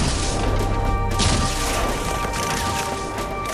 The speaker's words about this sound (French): Monsieur, ils utilisent le canon du vaisseau !